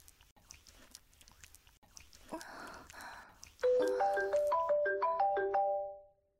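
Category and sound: signal or alarm, mobile phone ringtone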